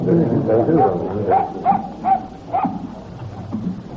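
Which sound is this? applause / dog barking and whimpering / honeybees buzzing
dog barking and whimpering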